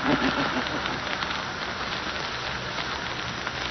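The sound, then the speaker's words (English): A steady, dense hiss of live steam rushes continuously, broad and loud without pause, filling a room like a pressurized jet pouring vapor. “Boiled nice and pink, boiled in steam, live steam.”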